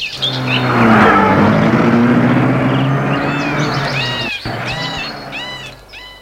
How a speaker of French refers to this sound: Et ils sortent tous de la maison. Ils entrent dans la voiture et partent.